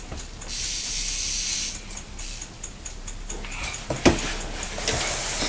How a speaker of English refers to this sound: Tick tock, tick tock, tick tock, tick tock. Tick tocking very quickly, isn't it? And you're playing with the timer on the builder book, aren't you?